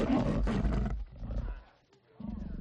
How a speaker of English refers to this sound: Okay, who brought the dog? I'm gonna bring this up at the next tenants meeting. There's not supposed to be any pets in the building.